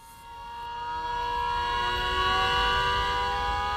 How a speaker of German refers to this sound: Sirenen, Trillerpfeifen und viel Rauch. Auf einem großen Plakat sind qualmende Schlote chinesischer Stahlwerke zu sehen.